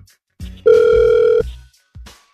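A single steady electronic ring tone of an outgoing phone call placed by the radio station Hot 96.9 sounds clearly for under a second over faint low background noise. No one speaks.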